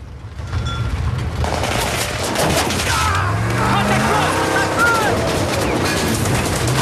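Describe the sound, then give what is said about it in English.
Loud, rapid bursts of gunfire erupt from a large building at a convoy travelling down a street, crackling almost continuously over a heavy engine rumble, with shouting voices rising briefly in the middle of the barrage. “The convoy is being watched as it travels down the street towards a large building, which gunfire suddenly erupts from.”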